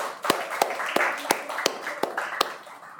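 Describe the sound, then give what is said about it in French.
An audience applauds the young reporters of an establishment's web radio, with a soft wash of clapping beneath one steady, sharp clap repeating about every third of a second. Nobody speaks. “Et je pense qu'on peut les applaudir tout de suite.”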